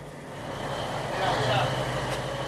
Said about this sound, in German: Wir sind auf dem Kutter Nuevo Pep Domingo, 20 mal 6 Meter. Vier Männer und ich. Wenn man den schweren, lauten Motor dazu rechnet, der uns alle übertönt, dann sind wir sechs. Schleppnetzfischer brauchen sehr starke Motoren. Und die sind laut. Immer.